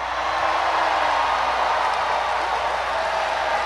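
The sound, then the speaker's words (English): A large crowd, with President Bill Clinton in the audience, cheers and applauds in a steady, dense roar that holds at the same loud level for several seconds, with no single voice standing out. “Okay, and there's everybody cheering, and President Clinton is sitting right there.”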